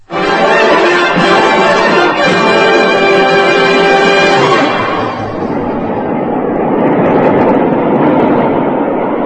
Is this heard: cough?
no